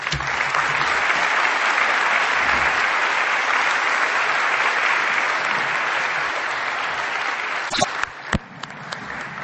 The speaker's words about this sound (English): Let's thank all three of our presenters with another round of applause.